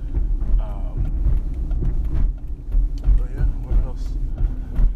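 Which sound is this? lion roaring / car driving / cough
car driving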